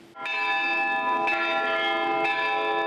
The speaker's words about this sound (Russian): А все желающие смогли приложиться к колоколам и ударить в каждый из них. На этой неделе колокола поднимут на звонницу.